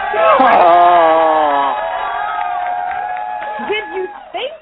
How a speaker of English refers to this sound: Did you think I wasn't going to play the applause track? Let's play it again for the Celtics.